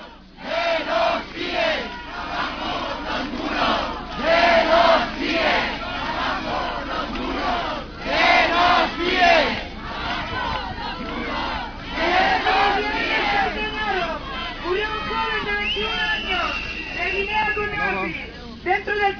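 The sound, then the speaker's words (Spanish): A protest crowd at a rally at the gate of the CIE (detention centre for foreigners) of Zona Franca in Barcelona chants loudly in rhythmic, repeated bursts, many voices shouting together in unison with a steady babble of voices between the chants. “y ahora lo que vamos a escuchar va a ser, digamos, la concentración que hubo en la puerta del CIE de Zona Franca el domingo pasado.”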